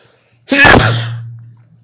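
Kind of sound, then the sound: human body sound, sneeze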